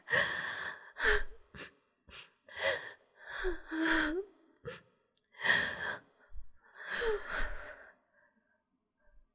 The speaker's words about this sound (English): Yeah, focus on my breathing.